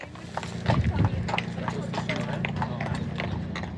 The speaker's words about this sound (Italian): Nella zona della stazione di Pontresina il via vai di cavalli è costante e all'imbocco della strada per la Val Roseg abbiamo incontrato diverse persone in attesa delle carrozze.